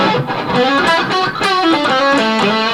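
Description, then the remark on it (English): A gritty, lightly distorted electric guitar plays a quick run of bright notes with a short slapback echo, loud with no voices. “he'll have a little bit of grit entered in a slapback echo.”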